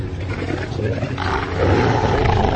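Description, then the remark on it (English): A beast's vicious snarl from the darkness beyond a vast arena gate, a deep rumbling growl that rasps continuously for a few seconds and swells louder and harsher toward the end, with no talking. “From the darkness on the other side came a vicious snarl.”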